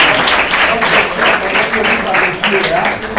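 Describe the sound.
Sustained audience applause, a dense steady wash of many hands clapping at an even, fairly loud level, with a faint murmur of voices mixed in.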